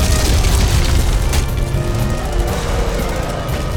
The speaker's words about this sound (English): The main entrance to Perella's estate blew apart, and a Chevy Blazer four-wheel drive roared through the opening.